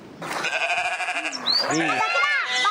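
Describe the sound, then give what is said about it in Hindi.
A male goat bleats loudly, a long quavering cry followed by a few shorter wavering bleats in quick succession, with no one talking over it. “जी बकरा, इनका जवाब दुरुस्त है, दोबारा टीम ब्लू की जानिब।”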